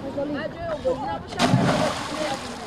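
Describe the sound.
Water splashes and sloshes, with a louder burst of splashing midway, while voices talk and call out in the background, as school children and teenagers swim in a river in Tajikistan.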